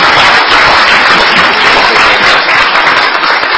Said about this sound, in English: First of all, I'd like to welcome, I think perhaps, to his first official DPW meeting as secretary, our new secretary of the Department of Public Safety and Corrections, Secretary Rob Green. So we'll give him a round of applause.